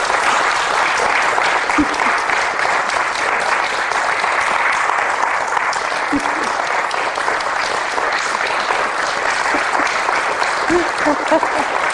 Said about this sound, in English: What a story. Yeah. Isn't that a great story? You're applauding the epic. Isn't it fantastic?